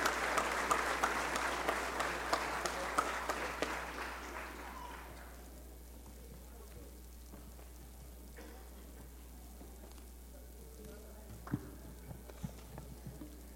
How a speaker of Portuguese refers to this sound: homenageando esse povo do bem, esse povo trabalhador, esse povo que merece de verdade as nossas salvas de palmas.